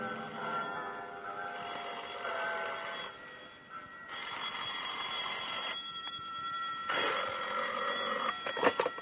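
An old-fashioned telephone bell rings loudly and close by in three long, rattling bursts separated by short pauses, with no voices.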